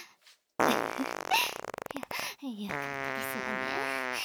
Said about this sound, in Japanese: やだ、おなら止まりませんわ。興奮しすぎてお尻バカになってしまいました。